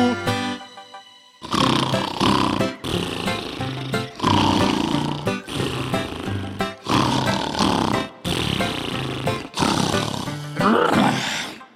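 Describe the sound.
A voice imitates a bear's snoring: about seven loud, rough, growling snores in a steady rhythm, each separated by a short pause, with nothing else audible.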